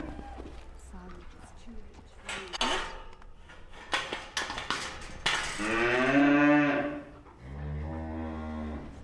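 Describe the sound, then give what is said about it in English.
Pedigree Limousin suckler cows bawl loudly, looking for nuts, two long, drawn-out moos in quick succession, following a stretch of muffled voices and farmyard clatter. “So these are suckler cows, and these are all pedigrees, Limousin, and the ones that are bawling are looking for nuts, they're pets in the middle.”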